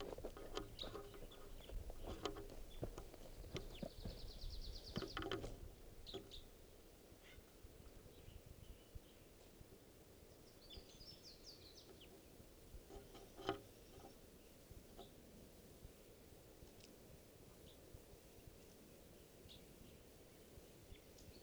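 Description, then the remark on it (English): A wild bird over by the decoys gives a few short, high chirping calls in scattered bursts over a steady low rumble, with occasional soft clicks and taps. No one speaks. “Those are his calls. Now he's over by the decoys.”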